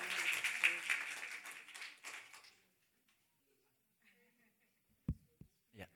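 An audience breaks into loud, dense applause that lasts a couple of seconds before fading out, followed by near silence broken by a few soft low thumps.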